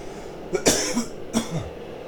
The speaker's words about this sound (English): Oh, I'm developing a cough out here on the tundra. So I better drink some tea.